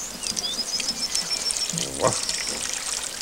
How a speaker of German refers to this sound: Was ist denn das für ein fürchterlicher Platterregen? Nanu, vorne regnet es ja überhaupt nicht.